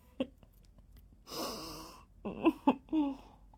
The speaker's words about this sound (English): I'm just gonna take another sip of liquid so I don't fucking die.